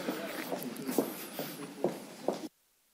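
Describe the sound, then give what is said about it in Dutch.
Several soft footsteps cross a hard floor in a steady walking rhythm as a speaker swaps places to stand at the lectern, moderately quiet, over a faint room hum, then cut off abruptly into silence. “Ja, we zijn heel aan het lopen.”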